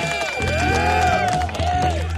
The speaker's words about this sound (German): Ich hab Buhrufe gehört. Ja, das ist auch schon ein Jingle übrigens. Haben wir auch schon seit ein paar Jahren.